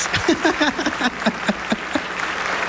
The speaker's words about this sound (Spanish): Por favor, aplausos.